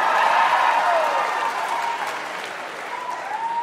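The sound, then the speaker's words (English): A stand-up comedy audience applauds steadily, a dense wash of many hands clapping at even loudness, with faint whoops or cheers threading through, easing slightly toward the end without stopping. “Round of applause if you smoke weed to deal with anxiety.”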